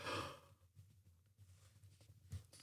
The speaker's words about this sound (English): Why do I keep yawning when I talk? I feel like it's early signs of dementia or something.